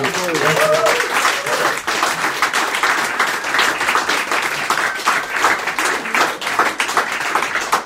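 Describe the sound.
Sustained audience applause fills the whole stretch, a dense, steady wash of many hands clapping at an even loudness, with a few faint voices rising briefly near the start.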